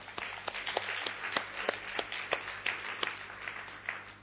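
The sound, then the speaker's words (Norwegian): An audience applauds the elderly people present, many hands clapping in a dense, irregular patter with sharp individual claps standing out, steady in volume throughout, with no voices over it. “Er ikke det verdt en applaus?”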